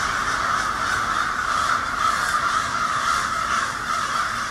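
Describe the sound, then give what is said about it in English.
A large flock of hundreds of crows perched on every branch of the trees caws loudly and continuously, countless harsh overlapping calls merging into a dense, raucous din with no pauses and no voices. “Halloween, spooky season, crows, all part of the fun.”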